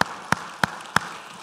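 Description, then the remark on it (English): A church audience claps together in praise to God in steady unison, four sharp, crisp beats evenly spaced about a third of a second apart, with a low murmur of room noise and no one speaking. “Let's give God a clap and a praise.”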